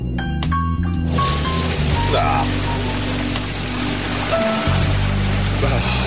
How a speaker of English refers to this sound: We gotta dump the water out and pull the bones out. God! We're gonna dump it through these screens. That's... And capture the bones.